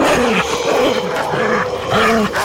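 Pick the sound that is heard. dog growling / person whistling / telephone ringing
dog growling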